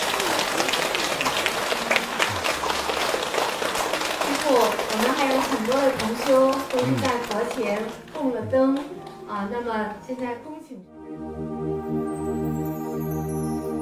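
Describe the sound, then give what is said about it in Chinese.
A crowd breaks into dense, sustained clapping to thank the master for his blessing. The clapping gradually thins out after several seconds, with some voices mixed in, before steady, sustained tonal music takes over. “用热烈的掌声来感恩师父，感恩师父的加持祝福。”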